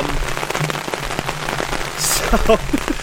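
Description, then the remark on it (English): Steady rain patters on a hard surface, a dense crackling wash of drops with a few louder splashes. Faint voices murmur underneath. “Hey, if you want to call a rain delay, should we have a rain delay, or we can stick this out?”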